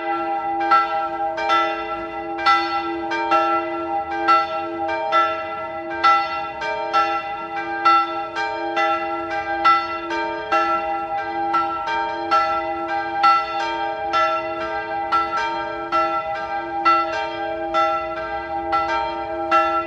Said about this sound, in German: Es ist 12 Uhr. Sie hören die Glocken der Bürgerspitalkirche in der Stadt Salzburg.